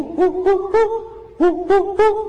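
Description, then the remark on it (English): A cuckoo sings during monsoon season with clear, hooting tonal notes, two quick bursts of three rising-then-steady calls separated by a short pause, fairly loud against a quiet background. “So this is, even though it's monsoon season, the cuckoos are singing.”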